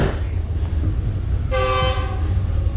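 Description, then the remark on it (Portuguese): A train rumbles steadily along the Lobito Corridor railway line in Angola with a heavy low-frequency roar, and partway through a loud, sustained horn blast sounds for about half a second before the rolling noise continues. “Os comboios já circulam.”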